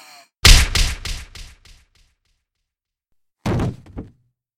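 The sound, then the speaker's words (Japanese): A heavy right-straight punch to the face lands with a loud, low thud that breaks into a few quickly fading thumps, then after a pause of silence a second, shorter blow strikes. No one speaks. “どうですか？私のパンチの味は。”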